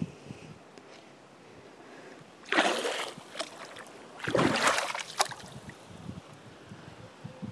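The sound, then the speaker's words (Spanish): Water sloshes and splashes in two bursts as feet are dipped into a swimming pool in the afternoon, over a steady outdoor hiss with faint background noise; no clear talking. “yo os presento también mi piscina. Vamos a meter los pieses.”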